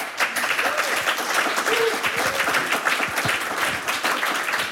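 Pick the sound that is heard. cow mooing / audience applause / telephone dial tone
audience applause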